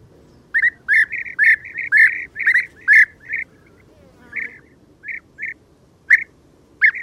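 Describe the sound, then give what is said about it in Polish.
European bee-eater calls: a rapid series of soft, rolling, slightly trilled notes, repeated in quick bursts and then more sparsely, over a low background rumble. “Żołna należy do najrzadszych, ale przy tym najpiękniejszych polskich ptaków.”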